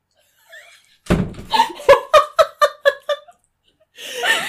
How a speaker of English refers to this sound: son just opened the door.